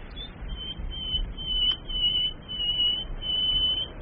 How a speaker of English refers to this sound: Is that it? Yes, my lord. That's the nightingale. But that is beautiful.